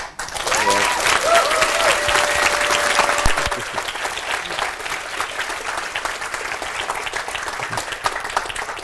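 A crowd breaks into sustained applause, loud clapping that fills the whole stretch and eases slightly after a few seconds, with a brief whistle-like tone early on.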